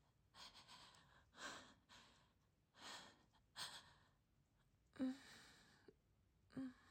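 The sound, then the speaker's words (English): A woman gasps and breathes heavily, a series of sharp, breathy inhalations and exhalations coming in irregular bursts, with a few louder gasps near the end and no talking. “The one that makes me gasp.”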